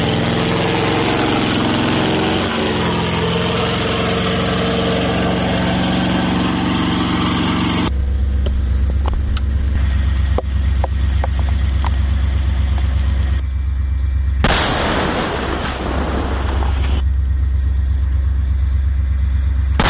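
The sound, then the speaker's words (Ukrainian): A heavy military vehicle engine idles loudly and steadily, its deep rumble shifting in tone partway through, with brief mechanical clatters and no voices. “Якби все ідентичне, але ці машини вони більш сучасні і вони більш легші в експлуатації.”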